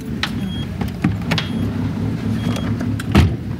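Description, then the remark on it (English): Shuffling and clicks of someone settling into a woman's car, with a few sharp knocks and a firmer thump near the end like a door shutting, over a low steady rumble. “As we get into her car, I notice the gas gauge shows that we have less than a quarter tank.”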